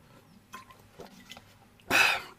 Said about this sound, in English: I'm just going to drink some water. So if you're listening to audios only, if on Spotify, if you're listening to this on audio, I'm going to have a few sips. If I do pause, I apologize.